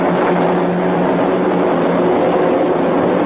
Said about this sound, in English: Here they come! Fighter plane! Bombers, too! Find them out of there, faster! Here comes the C-47!